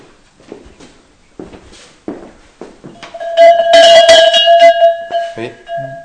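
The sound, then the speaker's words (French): Soft handling knocks, then a steel cowbell struck with a soft mallet rings out loud, its metallic tone sustaining and clanking for a few seconds before fading. “Et le fait, parce qu'on a l'image de plus sonaille des cloches de vache, c'est-à-dire un son un peu moins comme ça, comme celle-là par exemple.”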